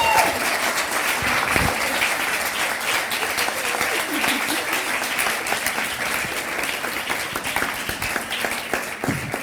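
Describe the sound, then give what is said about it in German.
Sustained applause from a crowd, dense rapid clapping at an even loudness throughout, with a faint voice briefly audible underneath. “Dankeschön, das ist dein Applaus und deine Willkommenstüte.”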